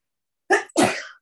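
A single sneeze breaks the quiet: a short sharp intake burst followed by a louder, breathy explosive release, with no talking around it.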